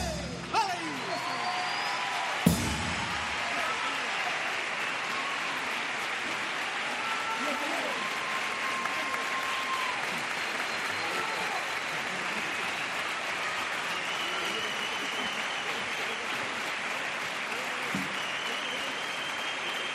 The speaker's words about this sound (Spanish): De esta forma, con gritos de ole, ole y palmas a compás, despide el público que puebla fundamentalmente la zona baja del Gran Teatro Falla, las butacas, a esta comparsa muy joven de Chipiona